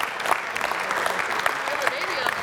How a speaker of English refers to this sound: Round of applause.